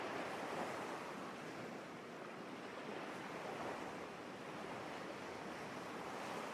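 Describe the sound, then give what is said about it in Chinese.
Ocean waves wash in a steady, unbroken roar with no distinct individual crashes, a full surf sound with a hint of wind and no voices. “看着浩瀚深邃的大海，养育亿万生命的大海，你的心也变得开阔而舒畅。”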